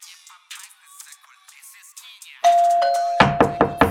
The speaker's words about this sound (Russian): Блять, кто там в дверь долбит?